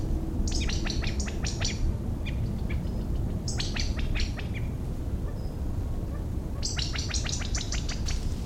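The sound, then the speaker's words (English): Bursts of high, bright chirping calls come in three quick rapid-fire clusters, with a few scattered notes between, over a steady low rumble of background noise. “Can't see any of the birds at present.”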